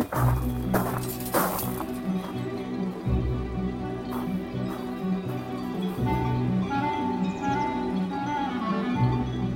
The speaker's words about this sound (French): Parce que là, on entend un peu plus bas les vaches, mais se mêle aussi donc le son des sonnailles que nous avons, parce que pas très loin, donc on a des moutons.